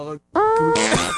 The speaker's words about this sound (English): Just fart all over my bars, huh? I sure did.